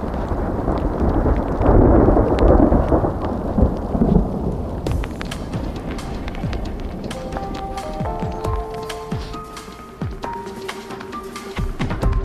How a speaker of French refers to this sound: Oh là, c'est pas un bon temps pour les abeilles parce que non. Il y a l'orage et maintenant il y a la grêle. Vacarme.